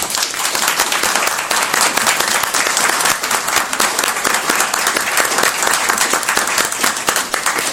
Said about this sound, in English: If you can please recognize our new employees and give them a round of applause.